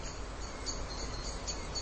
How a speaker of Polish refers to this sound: No co to było? Świerszcze. Świerszcz! Piękny świerszcz.